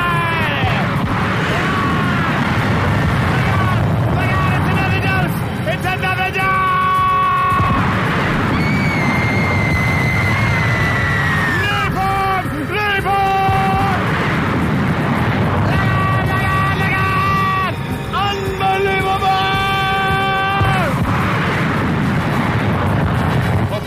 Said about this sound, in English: And sure enough, as the crowd went to its feet, the aircraft came in low, but it was no salute. These planes were loaded with napalm, and they cut loose on the crowd.